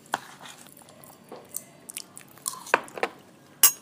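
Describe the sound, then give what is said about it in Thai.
Chewing and crunching while eating vegetarian food, a series of irregular crisp bites and wet mouth sounds over a few seconds, with one sharper crunch near the end. No one talks. “นี่คุณจะต้องดำรงชีพด้วยการกินอะไรแบบนี้ไปอีกเท่าไหร่นะ”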